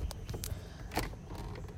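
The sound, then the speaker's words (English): A car door shuts with a muffled thud as a person inside the car closes it, preceded by a few soft clicks and handling sounds, all fairly quiet over a low background rumble with no talking. “I'm closing my car door.”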